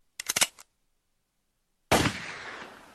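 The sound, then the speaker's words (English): A gunshot sound effect: a quick burst of several sharp gunshots, a second of silence, then a single loud, booming gunshot whose echo rings out and slowly fades. No one speaks. “That was a terrible gunshot. Oh, let me try this one instead.”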